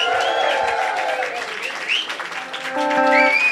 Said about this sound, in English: So big applause again